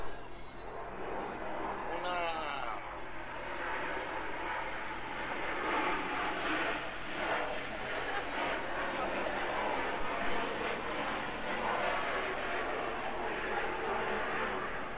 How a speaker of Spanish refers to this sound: ¿Cuántos aviones al día pasan?